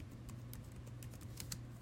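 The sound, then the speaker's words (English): Quick, irregular clicks of a computer keyboard, about a dozen light keystrokes typed with one hand over a steady low hum, with no one speaking. “I'm typing with one hand.”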